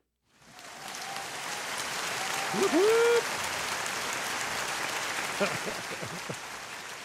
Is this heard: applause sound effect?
yes